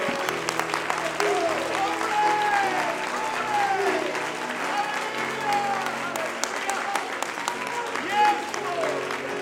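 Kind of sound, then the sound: crowd, audience clapping hands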